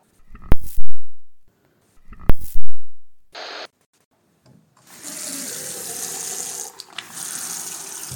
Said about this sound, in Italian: Sì, vabbè, l'acqua va ancora qui, naturalmente siamo, non c'è problema per l'acqua per ora